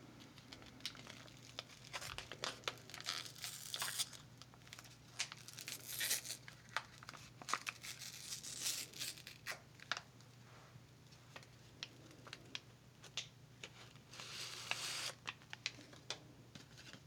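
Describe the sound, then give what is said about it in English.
Paper tearing and crinkling, with repeated ripping bursts and rustling handling noise over about seventeen seconds as a prepackaged paper pack is torn open. No talking. “Comes prepackaged in a paper pack.”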